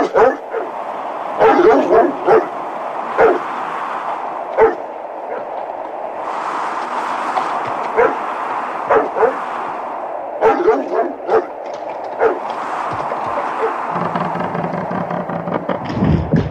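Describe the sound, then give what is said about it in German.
A dog barks repeatedly in short, sharp bursts, some in quick clusters, outside in a courtyard keeping watch, over a steady rushing background, with people talking at times. “Lass den Hund in den Hof. Er soll draußen Wache halten.”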